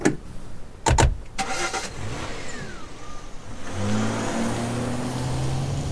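A car door thunks shut, then an engine cranks and starts, revving up as the car pulls away to drive someone back to the bus station; the steady engine drone builds and rises in pitch as it drives off.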